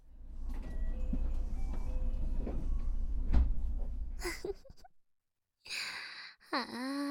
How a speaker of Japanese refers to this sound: ああ、ドア閉まっちゃった。